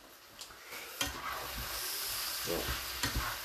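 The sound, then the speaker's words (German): A spatula scrapes and stirs through food sizzling steadily in a frying pan, with a few sharper scraping knocks against the pan over a constant hissy fry. “Dann gehen wir nochmal hier um durch die ganze Pfanne durch.”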